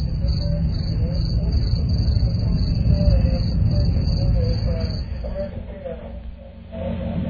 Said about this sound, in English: Boy, those crickets. And normally, the second go-round with the crickets, automatic hang-up.